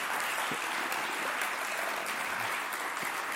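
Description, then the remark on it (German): Sustained audience applause welcoming a guest speaker to the front, a dense steady wash of many hands clapping at an even loudness for the whole stretch, with no voices standing out. “Und da darf man jetzt ruhig mal mit dem Vorschusslorbeeren Applaus.”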